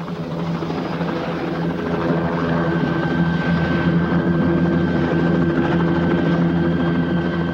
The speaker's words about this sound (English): Mike watches Webb's helicopter land nearby.